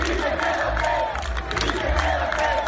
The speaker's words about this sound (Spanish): Y el Oporto ha celebrado el título de liga con su afición, con gritos de Casillas, quédate.